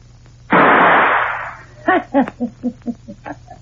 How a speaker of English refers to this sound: You see that gun laying on my dresser? I'm going to count three. Get it and shoot the key out of the door behind you. Don't worry about the door or the noise.